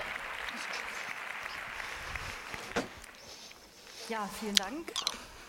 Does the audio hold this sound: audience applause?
yes